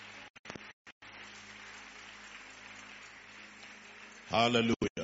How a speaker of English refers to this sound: But those of you who are giving the Lord a clap offering, I will expect to hear your clap. Praise God.